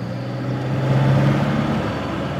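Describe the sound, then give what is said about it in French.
A grocer's delivery truck, collecting narcissus flowers during the harvest, drones steadily while driving on its round, a low continuous rumble with road noise that swells slightly midway and holds throughout, fairly loud, with no voices. “C'est parti pour une petite tournée avec lui.”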